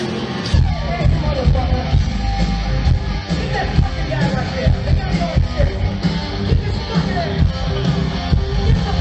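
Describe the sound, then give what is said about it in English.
A singer on stage yells at someone while half-singing over a loud, roaring concert crowd, his raw voice pushing through a dense, constant wall of noise that stays intense for the whole stretch. “He's yelling at him and singing at the same time.”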